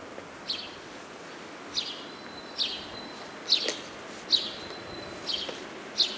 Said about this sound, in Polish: O proszę, aż się wróbel rozśpiewał wiosennie, no pięknie. No tak, jakby się dopominał o pomoc dla siebie.